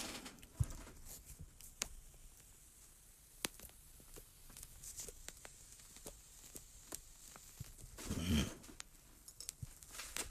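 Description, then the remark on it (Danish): Matches are struck to light a cigar: quiet scattered clicks and small scrapes, then a louder rasping hiss as one flares near the end, with no talking. “Der er programmets navn, og cigaren tænder jeg nu. Det skulle lige mangle håb. Ja, tændstikkerne har det med at drille mig.”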